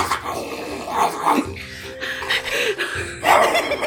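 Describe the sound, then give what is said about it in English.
A person growls and snarls like an angry two-headed dog, a rough, throaty sound that rises and falls in bursts for a few seconds, fairly loud, with no talking. “Can we hear how the snarling sounds like?”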